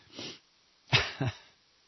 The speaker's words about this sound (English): People listening, Jesus, God, what is this guy just finished high school radio? He coughs into the microphone? Do you need a cough drop or some Viagra or anything?